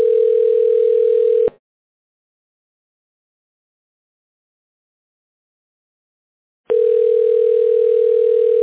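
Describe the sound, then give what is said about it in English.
A telephone ringback tone while a call is being connected: a steady, mid-pitched electronic buzz sounds for about a second and a half, falls silent for several seconds, then starts again. No one speaks. “Calling. I'll see if this person is available.”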